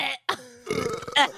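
A loud burp with a raspy, croaking texture, broken into a couple of short gulping bursts before a longer rumbling belch, no speech.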